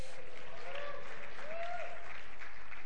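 A church audience gives a round of applause, clapping in a steady, dense patter of many hands, with a faint tonal whistle or voice rising briefly above the applause.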